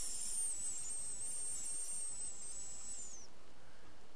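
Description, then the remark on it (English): A steady, high-pitched hiss of escaping gas runs for about three seconds with a faint whistling edge, then cuts off, leaving near silence. “You barely even notice as I slide the goggles over your eyes while you continue to listen to my sleepy voice, reminding you of the sleepy words that fill your sleepy mind as you inhale my sleepy gas. Hiss.”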